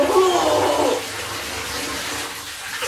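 shower water running

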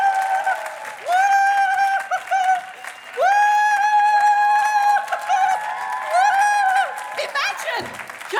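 audience cheering and applauding

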